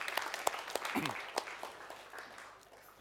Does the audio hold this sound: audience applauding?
yes